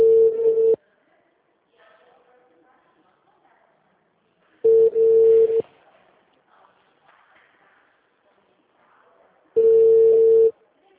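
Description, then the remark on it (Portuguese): A telephone line tone after a dropped call: three loud, steady beeps, each under a second long, repeating roughly every five seconds, with faint background murmur in the gaps. “caiu a ligação”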